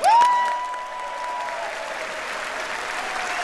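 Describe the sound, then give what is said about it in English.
Members of both chambers of Congress break into sustained, dense applause as President Bush enters the chamber, holding steady throughout, with a brief sustained cheer-like tone rising over the clapping at the start. “He will enter the chamber, as he always does, to a round of applause by members of both chambers of Congress.”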